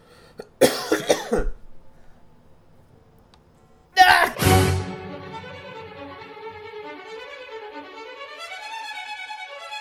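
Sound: cough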